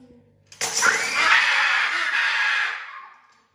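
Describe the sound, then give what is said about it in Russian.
A child lets out one loud, harsh, shrill shout that bursts in suddenly after a moment of quiet, holds for about two and a half seconds, then fades out. “Чё ты кричишь?”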